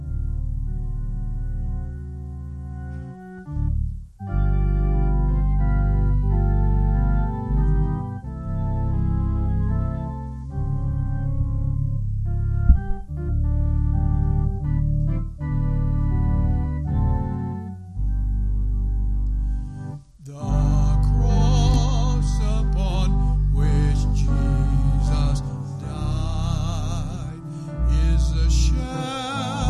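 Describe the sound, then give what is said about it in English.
A standing church audience sings a hymn during an altar call, in steady, sustained chords, holding each line at a full, even volume with brief breaks between phrases; over the last third the sound turns brighter and fuller. “if you need to come to the altar and just be thankful for a little bit, we invite you to come as we sing”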